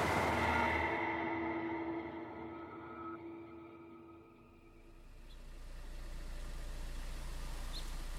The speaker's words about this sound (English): On October 10th, 1978, a few weeks after Phil Ritter was attacked in his driveway, a car idled outside of a house in the Pacific Palisades neighborhood of Los Angeles.